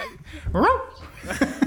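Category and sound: animal, dog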